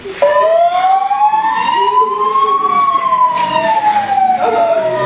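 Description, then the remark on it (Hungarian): An ambulance siren wails loudly and steadily, its tone rising slowly and then falling in one long sweep, with no talking, as the ambulance rushes to a pedestrian hit by a car on a busy summer day. “Hello, mentők! Kérem, jöjjenek gyorsan!”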